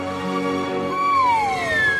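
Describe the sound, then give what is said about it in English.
Todd Glass plays a special slide whistle solo, a smooth, siren-like tone that slides slowly downward in pitch, held steadily over a dense, humming musical backdrop with no talking. “Ladies and gentlemen, with a special solo. On the slide whistle.”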